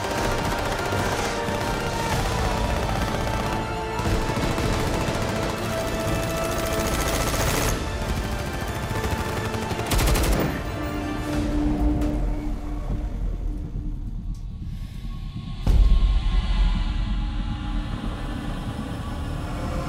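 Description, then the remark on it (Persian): Sustained, dense gunfire rattles on for the whole stretch as hostages flee the line of fire, loud, with rapid bursts layered over a heavy rumbling background and a sharp louder blast near the end. “گروگانا دارن از خط آتش فرار میکنن، دستور داده نمیشه.”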